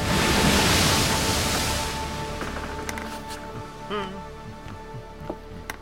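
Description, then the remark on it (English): Ocean waves slap and wash against the bow of a slave ship, a loud rushing surge at first that settles into softer lapping water, with faint creaks and tones from the vessel. “Doubts and questions nagged at him like the waves that slapped at the bow of his ship.”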